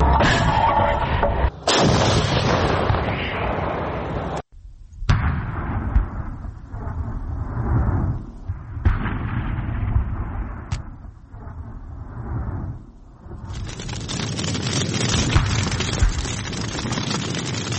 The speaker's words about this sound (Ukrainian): Ми зараз знаходимося на вогньовій позиції разом з 40-ю бригадою. Відбувається бойова робота.